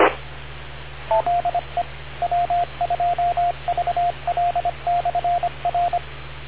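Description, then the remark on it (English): A rapid string of short, clipped two-tone beeps in uneven groups, like keyed tones sent over a radio link, standing out above a steady band-limited hiss with no one talking. “I think he hit a beep.”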